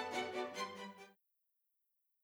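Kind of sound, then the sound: sound effect, radio static noise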